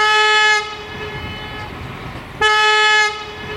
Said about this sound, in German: als im Bahnhof Allendorf-Eder die Lok ankam und sie zahlreiche Fotografen erblickte, ließ sie einmal das Horn erklingen und ganz besonders in der Aufnahme finde ich den Hall, der wieder zurückkommt. Wir hören nun die Pfeife der Lok.